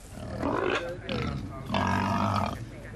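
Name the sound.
pigs grunting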